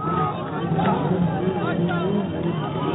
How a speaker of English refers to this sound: The crowd chanted, "Allahu Akbar, God is great," and raced along with the motorcade, trying to get a glimpse of the Ayatollah.